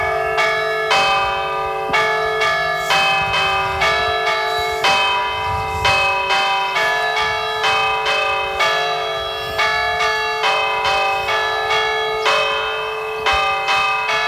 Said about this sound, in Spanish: Y mientras tanto vamos a escuchar un nuevo toque de campanas, en esta ocasión el toque de Tente Nube.